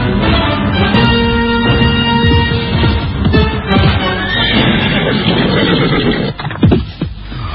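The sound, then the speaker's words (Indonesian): A horse neighs loudly, a long, wavering whinny filling the whole stretch, with some brief shuffling and hoof noise toward the end. “Memang, menunggang kuda bisa mempercepat perjalanan.”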